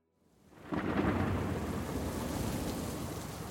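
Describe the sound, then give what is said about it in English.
A low thunder rumble swells in quickly and holds steady over a dense wash of falling rain at night in Harare, Zimbabwe, during a storm with lightning, loud, with no voices. “So now it's nighttime. Rain is starting to fall. There's lightning starting, right?”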